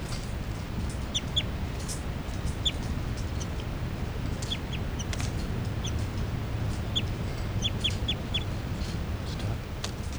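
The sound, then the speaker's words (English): A captive juvenile female bird, number 384, gives begging calls: thin, high-pitched chirps repeated in short irregular bursts throughout, over a steady low rumbling background noise. “That's 384 giving begging calls.”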